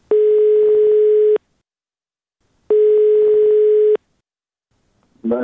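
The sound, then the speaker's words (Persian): Two long, steady telephone ringback tones of an outgoing call from Radio Azadi to a person searching for a missing relative, each lasting over a second with a pause between, loud on the line before a voice briefly begins at the end. “بنابراین ما هم کوشش کردیم که از طرف خود به کسانی که در جستجوی گم شده خود هستند تا تلفن کنیم و با ایشان صحبت بکنیم و صحبتشان را ثبت و نشر نماییم.”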